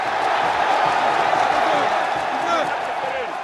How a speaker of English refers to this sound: President Nkurunziza plays three times a week. In Gitega, locals crowd around the field hoping for a glimpse of the president. They've become his personal cheering squad, celebrating every time he handles the ball.